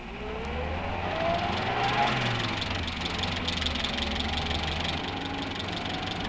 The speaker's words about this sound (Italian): La strada ti accoglie con rumori che ti sono altrettanto noti e che, ahimè, nelle cosiddette ore di punta, hanno l'infelice prerogativa di assommarsi, di moltiplicarsi, senza però fondersi mai. Ed ecco il rombar dei motori.